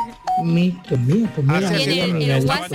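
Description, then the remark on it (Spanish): A brief beep, then a voice imitating a rapid string of phone notification chimes all arriving at once, with rising and falling pitch glides, fairly loud, one after another for a few seconds. “Le estaban llegando todas las notificaciones del tirón.”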